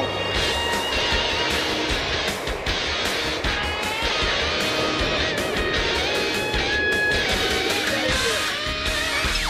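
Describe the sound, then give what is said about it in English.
A loud, continuous engine roar from a jet-powered Dodge pickup launching on the ground with afterburner fire, dense and steady for the full length, with whining tones riding over a rumbling low end. “As soon as he pressed that button, the afterburn, the fire came out. And I was sucked right back to the seat.”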